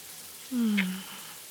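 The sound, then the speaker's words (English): A steady, soft hiss of shower water runs throughout as one person washes another's hair, with a brief low squeak or hum sliding downward partway through. “How's the water? Is it hot enough for you?”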